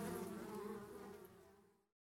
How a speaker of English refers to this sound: Now the nectar and the pollen for the honey come from flowers, which the bees must go in search of and then buzz around for hours.